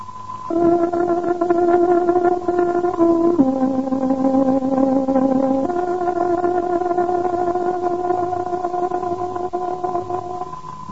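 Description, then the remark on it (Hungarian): A tárogató plays the exact time signal for 13:00 on the Hungarian shortwave service of Radio Free Europe, a slow, steady melody of long sustained reedy notes, stepping between a few pitches and holding each tone, loud and alone with no talking. “Kedves hallgatóink, pontos időjelzést adunk. Tárogatónk 13 órát jelez.”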